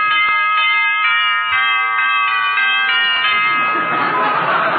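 An electric doorbell rings on and on, a loud, sustained buzzy chime with pulsing harmonics that keeps going without a break, ending in a noisier, rattling stretch.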